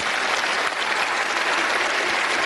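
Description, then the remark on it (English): A crowd applauding steadily, a dense, even wash of many hands clapping at constant loudness throughout, with no speech over it. “She's just waiting there, pausing, letting the crowd die down, who think that the teachers won.”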